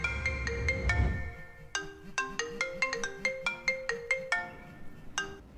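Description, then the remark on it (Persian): A mobile phone ringtone plays a bright, rapid melodic tune of short repeated tones, loud, with a low rumble at the start. “بعدش تلفنم زنگ خورد.”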